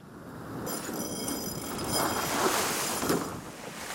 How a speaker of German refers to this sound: Jens Müller kreuzt mit seinem nur 8 Meter langen Segelboot vor Gotland an der schwedischen Küste.